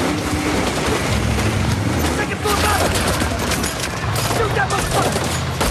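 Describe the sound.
Loud, dense gunfire crackles in rapid bursts almost nonstop as military trucks are ambushed in Iraq, with a heavier blast-like thud of a grenade fired at a parked car mixed in, and voices faintly under the shooting throughout.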